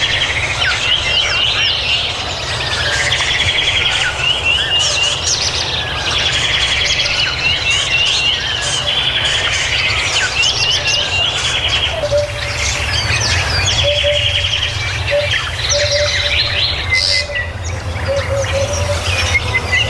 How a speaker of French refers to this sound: Moi, j'ai entendu des bruits de grenouilles et plein d'oiseaux différents. Je pense qu'on est en Amazonie. Moi, je pense qu'on est dans la forêt vierge, pas loin d'un marécage où il y a des grenouilles